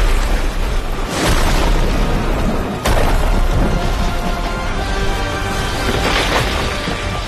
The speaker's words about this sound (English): With a mighty roar, he struck one thunderous blow on the wall of the hall.